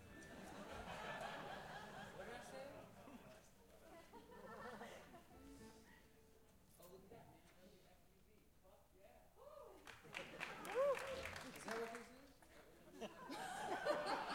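An audience claps in a scattered burst that grows louder toward the end, mixed with crowd laughter and murmuring chatter from a room full of people.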